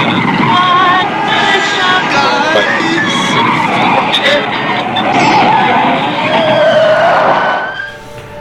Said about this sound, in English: Well, the initial spin wasn't him breaking. He was clearly doing donuts there.